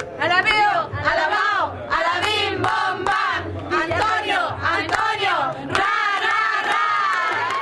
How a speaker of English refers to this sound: Several women known as Las Promotoras chant their approval.